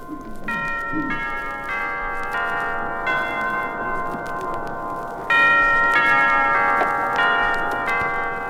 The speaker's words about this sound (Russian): Наверное, и тебя, застигнутого у Ленинского мавзолея перезвоном курантов, посетит это ощущение. Покажется, что выбивают куранты давний прозрачный реквием революции.